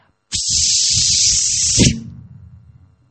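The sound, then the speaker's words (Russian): A voice makes a long, steady snake-like hiss lasting about a second and a half, loud, then breaks off into a quiet murmur of low background noise. “И ты знаешь, что рядом с Юдхиштхирой находится Бима, который шипит, как недобитая змея.”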